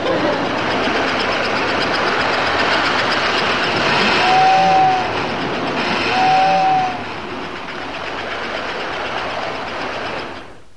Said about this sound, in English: Are we going to run the electric trains no more?